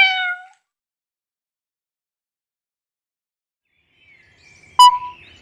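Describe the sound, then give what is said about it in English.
A single short, high-pitched meow of an orange cat rings out clearly at the start, followed by several seconds of silence and then a few brief chirpy, clicking sounds near the end. “Look, a cat. It's orange.”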